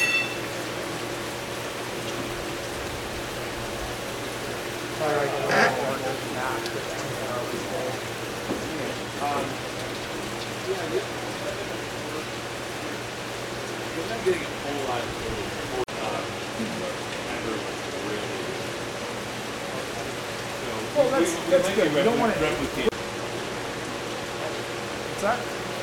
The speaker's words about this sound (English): I think we're just running less water to the tank and just slow away when I thought.